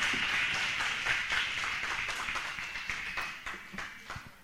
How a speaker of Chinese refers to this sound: 我们再次掌声欢迎他好不好？哈利路亚。 要给我们姊妹一个极大的鼓掌，那领得太好太好太好太好。